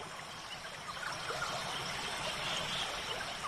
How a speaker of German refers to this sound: Mit jedem Schritt wird das Rauschen des Flusses ein bisschen lauter.